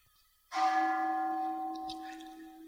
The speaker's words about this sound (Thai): สังเกตไหมเรากำลังทำความสงบอยู่พอเสียงระฆังมาจิตมันฉกไปที่ระฆังได้